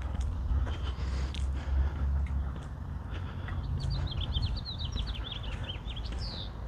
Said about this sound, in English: I hear little birds chirping.